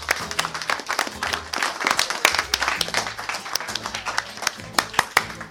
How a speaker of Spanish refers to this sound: Nos vamos con este micrófono, les agradecemos, y ahora sí que les voy a pedir un aplauso enorme por ustedes.